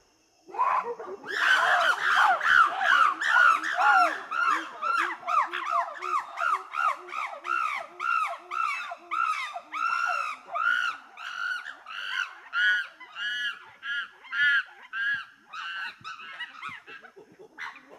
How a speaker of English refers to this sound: Did you guess monkey? That was a monkey. We don't hear those very often here in Kodiak, do we?